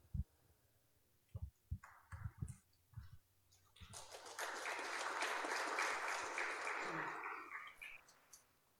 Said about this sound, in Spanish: Sí, bueno, está bien aplaudir a los compañeros y compañeras porque en realidad han dicho todo.